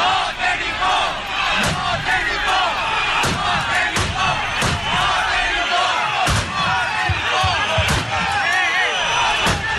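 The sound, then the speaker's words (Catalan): A loud crowd of about 3,000 protesters outside a government subdelegation shouts and roars continuously on a Sunday afternoon while Mossos police shotgunners fire volleys into the air, sharp, booming shots cracking out at irregular intervals, several in quick succession, cutting through the chaotic din of voices. “Finalment, escopeters dels Mossos van disparar a l'aire diverses salves per frenar la pressió dels manifestants que es van allunyar de la porta d'entrada.”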